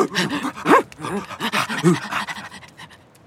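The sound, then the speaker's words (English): Several sled dogs of a dog-sled team in the snow pant rapidly and rhythmically, breathy huffs overlapping, with a couple of brief high whines mixed in before the panting tapers off and grows quieter. “Sled dogs are intelligent, strong, and energetic. They love to run.”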